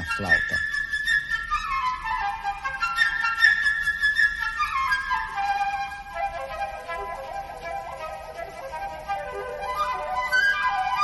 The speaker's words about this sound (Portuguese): Cada personagem desta história é representado por um instrumento da orquestra. Pedro, pelo quarteto de cordas. O passarinho, por uma flauta.